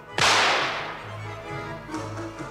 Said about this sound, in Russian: А ну-ка я сейчас как бабахну в черти из ружьишка.